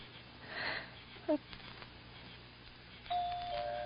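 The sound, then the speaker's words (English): A doorbell rings: a brief electronic tone, then a longer sustained ring a moment later, over a soft hiss and faint breathy noise. “Go on, push the bell.”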